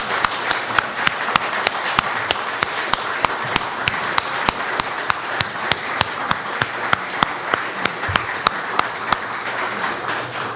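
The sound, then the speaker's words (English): An audience at the end of a talk event applauds the speakers steadily for about ten seconds, a dense wash of many hands clapping with sharper individual claps popping out irregularly above the crowd. “If you give a round Good of applause questions. For our speakers.”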